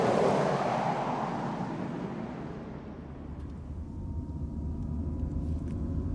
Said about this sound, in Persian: ماشین بهمن تو جاده.